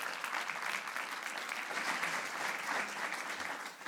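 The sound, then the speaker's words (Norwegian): An audience applauds steadily for a few seconds as a woman is invited up to the front, a dense, even wash of many hands clapping at moderate volume with no voices on top. “Ja, gi henne en applaus.”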